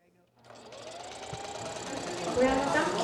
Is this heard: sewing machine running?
yes